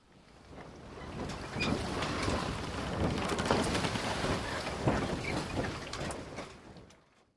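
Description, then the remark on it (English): A creaking wooden boat rocks on the open sea, with wind and sloshing waves filling the background at a steady, fairly loud level for several seconds before fading out. “Out at sea in a rickety boat?”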